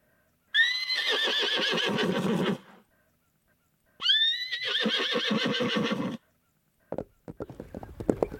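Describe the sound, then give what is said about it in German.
Two long, loud whinnies ring out, each a quavering neigh lasting a couple of seconds, followed by a short burst of sharp hoof clip-clops at the end. “Es führt dich die Straßen entlang zu den Pferden, die du ja schon gesehen hast. Such dir ein Pferd aus und schwing dich drauf.”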